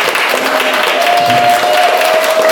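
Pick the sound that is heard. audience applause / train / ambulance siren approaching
audience applause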